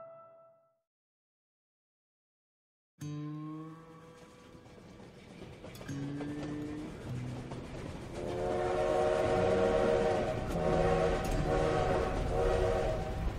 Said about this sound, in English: Imagine it's 1876 and you're riding the passenger trains from Chicago to San Francisco. The steam engine has rumbled through the Great Plains, wheeled up the Rockies, and descended onto the vast salt flats of Utah.